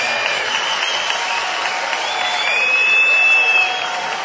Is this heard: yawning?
no